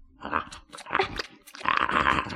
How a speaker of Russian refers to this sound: Собака ест из одной миски с лисом.